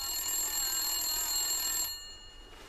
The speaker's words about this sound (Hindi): अच्छा शोहर ऐसा होता है, जैसे ही नाम लिया फौरन फोन आ गया।